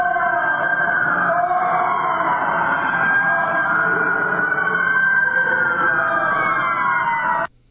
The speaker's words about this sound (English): Yeah, like I said, I tried to de-emphasize the sirens, and it's going to be difficult because it's all over the recording